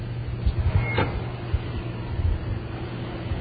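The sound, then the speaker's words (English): The small door of an outdoor cash machine slides open with a quick scraping whoosh in wet weather, set against a steady low machine hum and outdoor background rumble. There is no talking. “I've arrived at the machine. The little door is going to open.”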